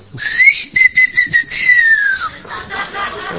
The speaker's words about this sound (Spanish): Va y le toca timbre, espera que la mina salga, le tira una piedra a la chapa, chifla.